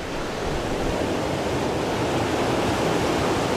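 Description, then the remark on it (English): A steady, broad roar of surf washes on without pause, waves rolling onto a shore, fairly loud with no voices. “Then, as the wave approaches the shore, the seabed rises up to meet the land.”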